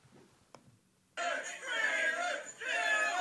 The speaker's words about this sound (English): This dude hopped onto the roof, has decided that, I guess as part of the dare or something, he's going to jump and crush this table. So already extremely deserves it. What are they cheering?